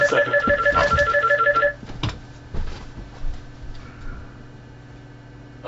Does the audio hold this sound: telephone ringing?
yes